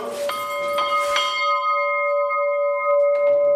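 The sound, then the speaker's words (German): A single bell from the prayer house (Bethaus) of the Heinitzbruch quarry is struck a few times in quick succession near the start, then its bright metallic tone rings on and slowly fades, with no voices. “Wir haben die Glocke aus dem Bethaus.”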